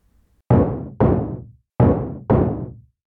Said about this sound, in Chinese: 又是熟悉的敲门声，每一年都有几次，在我一个人的时候，便会听到门外的敲门声，但我每次开门，外面总是空空如也。